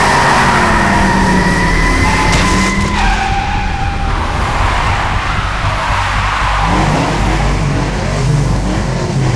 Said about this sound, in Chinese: 天哪，他在加速，他要把林朗的车撞开